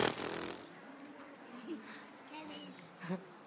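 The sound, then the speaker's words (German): A voice imitates a whoopee cushion being sat on, blowing a breathy burst followed by drawn-out, buzzing, wobbly raspberry tones at moderate volume. “Außer vielleicht ein Pupskissen. Kennt ihr Pupskissen?”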